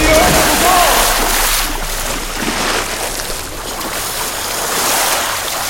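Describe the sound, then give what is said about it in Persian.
Heavy, continuous rush of churning water with surging waves in a swimming pool as a large man falls onto two others and all three go under, loud, swelling and settling over several seconds, with faint bird-like chirps early on. “استخر موج سهمگینی برداشت و هر سه به زیر آب رفتند.”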